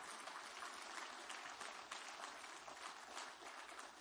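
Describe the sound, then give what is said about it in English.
An audience applauds God steadily for the full few seconds, a dense, even wash of many hands clapping together with no voices rising above it. “Give him a great clap off.”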